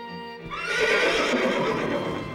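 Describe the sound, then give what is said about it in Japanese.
A carriage horse whinnies loudly, a rising, quavering neigh that swells and holds for about two seconds, with faint clip-clop of hooves underneath and no voices. “中佐、馬車の準備整っております。”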